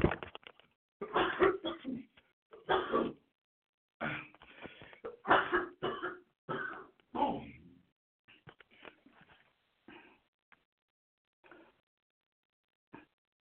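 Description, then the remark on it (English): A loud fit of coughing, a rapid series of harsh bursts with some throat clearing, gradually thinning out into a few quieter, spaced coughs before falling silent. “I apologize. I just had a little cough there.”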